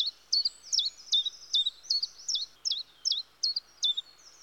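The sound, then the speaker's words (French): A flycatcher gives a rapid series of about ten sharp, high chirps in a steady rhythm, clear, with no voices or other sounds around it. “Certains d'entre eux, comme par exemple le gobe-mouche”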